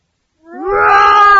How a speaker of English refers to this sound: What is that? It's a monster. Help! Roar!